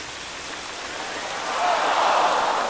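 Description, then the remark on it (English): A steady, broad hiss of water from a big fountain in City Hall Park, New York City, shooting 50 feet into the air, that swells louder about halfway through and keeps rushing without pause. No voices. “Yeah, they turned a big fountain on and...”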